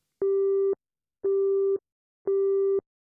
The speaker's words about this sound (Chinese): 电话打不通，队长，这里太偏了，小赵他们可能已经上了山路，没信号。